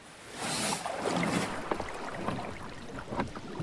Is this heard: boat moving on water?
yes